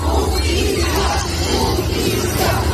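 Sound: crowd of protesters chanting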